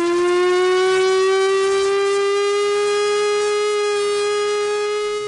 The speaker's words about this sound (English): But, you know, to remind us what it sounded like, let's go out on the sound of the Chrysler Victory siren.